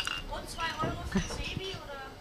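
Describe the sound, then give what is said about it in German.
A few quick glass clinks ring out, bright and short, as several glasses are tapped together in a toast, with people talking indistinctly around them. “Prost zusammen, schön, dass ihr da seid. Prost.”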